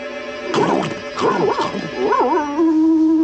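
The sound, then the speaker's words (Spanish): A dog, the Colonel, barks loudly, two quick rough bursts followed by a wavering, drawn-out yowl that settles into a steady held note. No one speaks. “Corren hacia los ladridos del coronel.”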